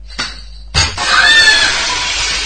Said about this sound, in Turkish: Eyvah, cam kırıldı. Lütfen ortalığı toplayın.